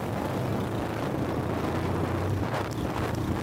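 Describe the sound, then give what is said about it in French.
Steady wind buffeting the microphone over a broad rushing of water, spray and waves against a moving boat during a crossing, continuous and fairly loud with no voices. “En attendant, notre traversée se frotte au vent et à l'eau.”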